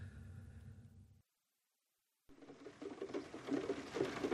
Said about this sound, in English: It's been raining for hours.